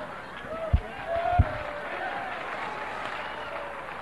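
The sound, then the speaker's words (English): An audience claps in a steady, diffuse wash of applause, with two sharper thumps early on and a low crowd murmur underneath throughout. “Don't clap for him.”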